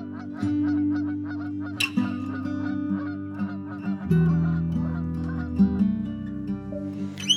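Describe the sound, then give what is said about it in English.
A flock of geese honks continuously overhead, many overlapping calls in a busy, steady chorus, with a sustained low droning tone underneath throughout. “Skies all open wide, geese go high and over.”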